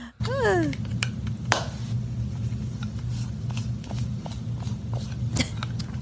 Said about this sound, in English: She's rubbing brushes up against the microphone.